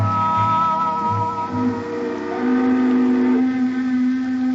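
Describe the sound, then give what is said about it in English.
A ferry's steam whistle blows one long, steady, loud blast that shifts slightly in pitch partway through, with a low engine rumble beneath it and no voices. “Look, lady, this is your third round trip on this ferry boat.”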